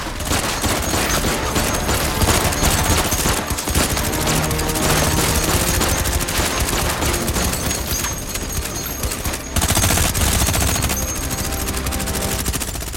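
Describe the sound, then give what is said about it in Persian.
Sustained rapid gunfire fills the scene, a dense, loud volley of overlapping shots that barely lets up for the whole stretch, with a brief dip before another burst near the end. “داره از اونجا میاد، شلیک کنی.”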